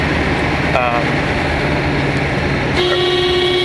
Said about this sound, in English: Kind of you can get a sense of what the road sounds like as we ride along in the car.